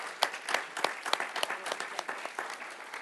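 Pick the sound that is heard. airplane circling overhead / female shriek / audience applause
audience applause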